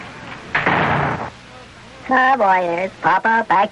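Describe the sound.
A shop door swings open with a brief, noisy rattle lasting under a second as people step in from the sidewalk, then people start talking in short bursts.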